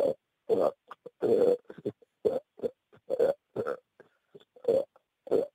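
A person burps out a tune, a string of short, rhythmic belched notes with brief gaps between them, loud and close, following a recognizable melody.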